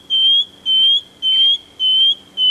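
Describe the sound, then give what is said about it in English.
A shining bronze cuckoo, a small sparrow-sized bird, gives a series of five evenly spaced, high, pure whistled notes, each slurring slightly upward, repeated in a steady rhythm with no talking. “Goes up. Yes, that's right. That's a shining bronze cuckoo.”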